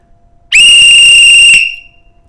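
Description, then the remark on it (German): A single loud, shrill blast of a pea whistle blown as hard as possible, lasting about a second, piercing and steady in pitch with a slight rattling edge, heard alone before cutting off sharply. “Das war ja wirklich die lauteste Trillerpfeife, die sie jemals gehört hatten.”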